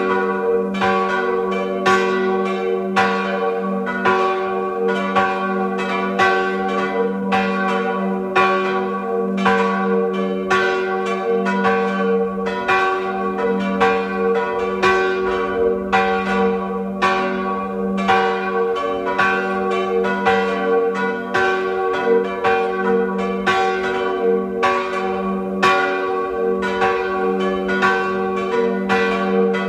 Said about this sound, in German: Es ist 12 Uhr. Sie hören die Glocken der Pfarrkirche zum heiligen Rochus in Schnann am Arlberg in Tirol.